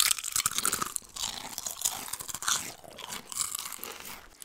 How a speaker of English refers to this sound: Dolby Surround ASMR Crunch. Chew. Ready? Three. Triple chew.